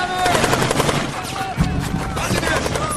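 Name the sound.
volley of gunfire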